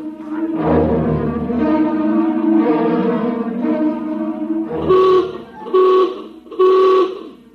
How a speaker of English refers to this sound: Now hear this. Now hear this. General alarm. General alarm. Emergency stations. Emergency stations. Condition red.